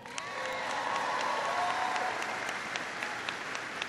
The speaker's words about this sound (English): I want you to give a big round of applause to the ….